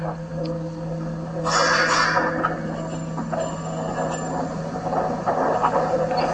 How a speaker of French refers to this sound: on peut l'utiliser comme une sorte de métallophone géant, en fait. Et donc, on est venu avec plusieurs intervenants taper dessus. Et, ce qui donne à peu près ça, ce qu'on entend.